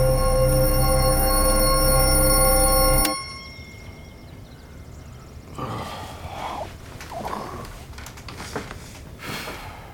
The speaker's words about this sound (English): Why do the bells keep ringing? What bell? The church bell? I don't hear anything. Seriously? You don't hear that?